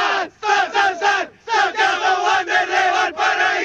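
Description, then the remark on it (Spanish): A small group of Wander fans ("los caturros") loudly chanting the Wander team cry "SN!" in unison live for radio, rhythmic repeated shouted syllables with a brief pause partway through, then continuing in a steady beat. “¿y es posible que hagan ahí el grito de Wander, por lo menos?”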